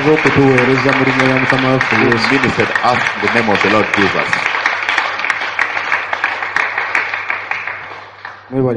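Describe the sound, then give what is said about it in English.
An audience breaks into steady, dense clapping that builds beneath a man's amplified voice and continues loudly to the end over a low steady hum. “Let's clap for they who have been donkeys the first time.”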